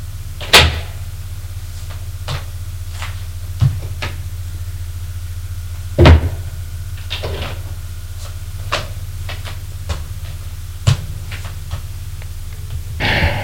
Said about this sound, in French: va ouvrir la porte de la pièce où dort Cliff.